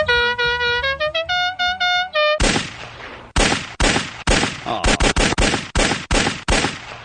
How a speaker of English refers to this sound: Not a fan of those car horns? I think I've heard them enough.